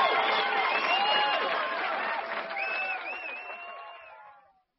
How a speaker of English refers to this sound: Let's have a big round of applause for everyone.